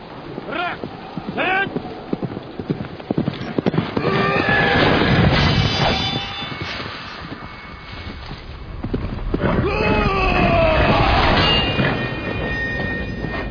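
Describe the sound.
A horse whinnies and snorts, its neighs rising and falling over clopping hooves and a busy outdoor bustle, with voices murmuring in the background.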